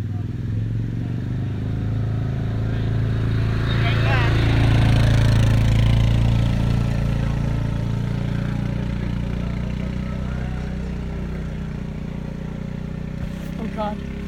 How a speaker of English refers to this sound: There goes the four-wheeler.